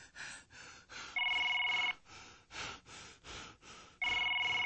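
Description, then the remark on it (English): A phone line rings on an outgoing call: two steady electronic ring tones a few seconds apart, fairly loud and clear over a pulsing, rhythmic background, with no one talking. “Hope this nigga pick up the phone.”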